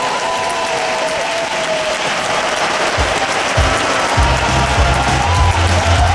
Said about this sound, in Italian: Accogliamo con un bel applauso i vincitori